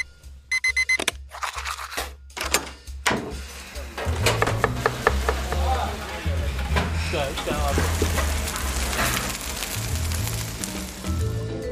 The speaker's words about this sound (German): Die Küche befindet sich hinter der Lobby. Riesige Kochtöpfe, Bratflächen, Fleischwölfe, Mixer, weiße Fliesen und Edelstahl. Neben dem Bekochen der Mannschaft läuft hier der alltägliche Küchenbetrieb.